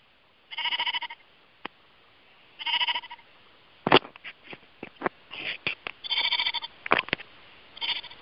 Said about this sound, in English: Can you hear the sheep?